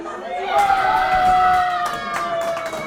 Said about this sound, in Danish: Jeg genkender flere elementer fra aftenens fodboldfejring. Brok over VAR-systemet. Synkrone udråb.